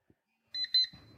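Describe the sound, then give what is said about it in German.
A phone alarm-clock app tone, triggered on nearing the destination, the Ulm Minster in Ulm: two quick, bright electronic beeps, followed by a thin fading tone over low, muffled rumbling. “Aktiviert sich der Wecker und gibt mir die Nachricht, du bist gleich da.”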